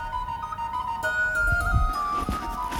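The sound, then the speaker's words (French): A person whistles an imitation of birdsong, holding clear, steady high notes that shift pitch a few times, with a low rumbling background underneath. “Et quand moi j'imite un chant d'oiseau, ça me fait du bien en fait.”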